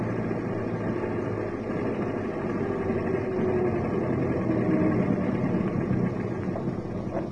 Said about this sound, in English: Then stop the car under those trees. We don't want our tail to spot us phoning.